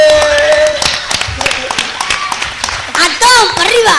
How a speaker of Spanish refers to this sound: Ahora la sorpresa va para vosotros. ¡Vamos arriba! ¡Un fuerte aplauso!